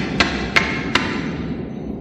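Three hard, sharp blows struck against a new metal wall in a railway tunnel, in quick, even succession, each a bright clanging bang over a steady low rumble.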